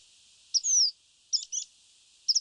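A common reed bunting sings a short, sparse phrase: a few high, clipped chirps and one thin, sliding note, clear, with quiet gaps between the bursts.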